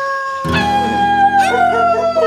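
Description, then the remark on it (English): Several wolves howl together in a loud chorus, long sustained overlapping tones with one voice sliding upward then falling away, continuing steadily without any talking. “I forgot. It's Thursday. It's Wolf Night. Wolf Night.”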